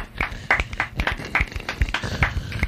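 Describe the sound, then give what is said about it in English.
A man's rapid, uneven handclaps, around a dozen sharp slaps in under three seconds, fairly loud, with no voices over them. “Sir, if you clap again, I will kill you.”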